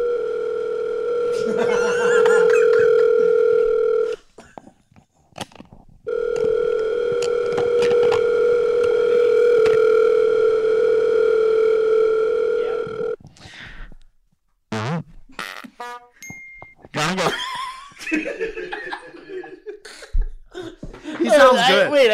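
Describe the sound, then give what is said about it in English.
A steady electronic phone ringing tone sounds in two long bursts separated by a short pause, loud, as a call is placed trying to reach the mayor, followed by people talking and laughing. “Should we call the mayor and announce?”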